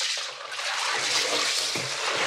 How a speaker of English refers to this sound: That is my hand going through the ice bath. And the ice. I have a big metal stick here that I use to mix it like a massive cocktail.